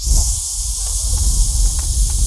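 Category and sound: household object, aerosol can spraying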